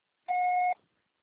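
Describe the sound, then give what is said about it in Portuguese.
A single steady electronic beep, about half a second long, with a clear mid-high tone and a bright overtone, sounding alone before silence, a voicemail prompt to start recording a message. “Grave seu recado agora.”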